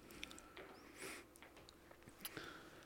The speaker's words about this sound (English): let's take a sip break. We'll take one more sip break, and then we'll wrap this up.